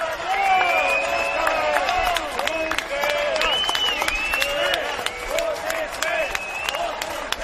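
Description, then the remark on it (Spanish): A dense crowd at an event receiving Esquerra leader Oriol Junqueras in Catalonia shouts and chants, some calling "Junqueras" and others "Botifler" (Catalan for traitor), many overlapping voices rising and falling in pitch, with sharp scattered claps cutting through the steady, loud din. “Escuchan gritos de Junqueras y otros de Botifler, que es traidor en catalán.”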